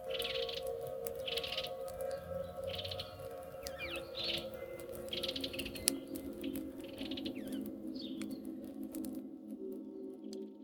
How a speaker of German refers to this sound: Sie bauten ihr Zelt auf, machten ein gemütliches Feuer und lauschten den friedlichen Geräuschen des Waldes, bevor sie schlafen gingen.